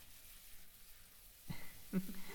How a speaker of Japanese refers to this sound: お股とかお尻シャワーで流すよ。